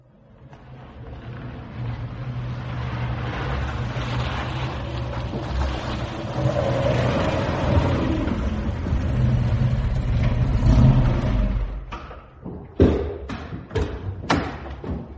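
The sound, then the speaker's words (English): A car engine rumbles steadily as the vehicle drives along for about twelve seconds, rising slightly in effort, then the engine drops away and a few sharp thuds follow. “The car's waiting outside.”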